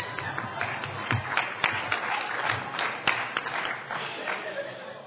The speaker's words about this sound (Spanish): El aplauso es para ella, para mí.